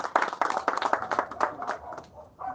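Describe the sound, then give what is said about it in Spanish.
A burst of people clapping, rapid overlapping hand claps at steady loudness that thin out and fade after a couple of seconds. “Bueno, un aplauso para eso entonces.”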